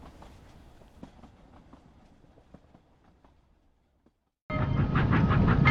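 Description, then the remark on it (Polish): A train rumbles and clacks as it pulls away from a station platform, its sound steadily fading into near silence before a loud, dense rush of noise cuts in abruptly. “Odjeżdżając z kolejnego peronu, widzisz kobiety żegnające młodą dziewczynę”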